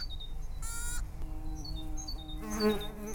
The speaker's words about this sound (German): So wie diese Wildbiene, die sich gerade in ein Stück Totholz bohrt.